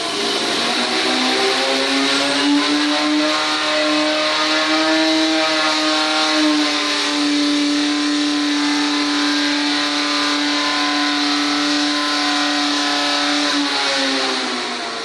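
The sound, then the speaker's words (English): An engine revs hard, building in stages to around 7,500 RPM, its highest, and holds a loud, high, buzzing whine for about fifteen seconds, pitch nudging upward midway, then easing slightly as it fades at the end. No one speaks. “Building up in stages to around 7,500 RPM, which is the highest.”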